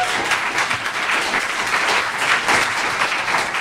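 An audience at a public meeting applauds steadily for the plant-based dog food companies Talo and V-Dog, a dense wash of many hands clapping at a fairly loud, even level from start to finish, with no voices breaking through.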